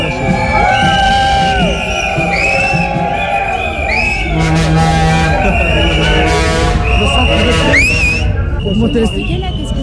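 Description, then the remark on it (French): A dense crowd of protesters in front of the entrance to the PSA Peugeot Citroën headquarters, demanding 300 euros, blows shrill whistles nonstop, overlapping high pitched blasts and warbling tones over loud shouting and chanting voices, steady and loud throughout. “Et là, il y a autant de sifflets parce qu'en fait, on est devant l'entrée”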